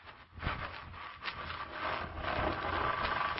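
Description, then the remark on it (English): A door in a house creaks open in one long, rough wooden groan that scrapes on for a few seconds at a steady, moderate level, with no voices. “Sure as anything, I thought I heard our door creak open.”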